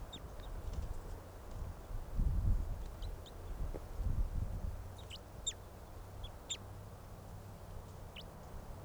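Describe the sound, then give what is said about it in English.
A wild crossbill flock, several birds in the trees all around, calls with short, sharp, high-pitched chip notes, scattered irregularly and sometimes in quick pairs, over a steady low rumbling background. “Oh, there are more than just the two crossbills. I see another hanging in a tree here. Yeah, there's a whole flock all around.”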